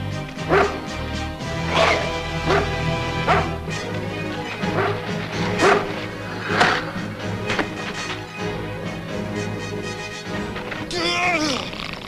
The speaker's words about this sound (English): Let go, you dumb dog! Get rid of that thing!